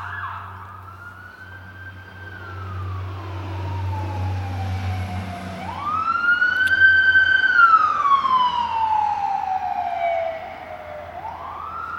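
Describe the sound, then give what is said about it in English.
A wailing emergency siren rises and falls in long sweeps, swelling louder as it approaches, with a low engine rumble underneath and no talking. “Must be a wreck.”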